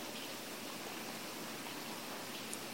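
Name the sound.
raindrops falling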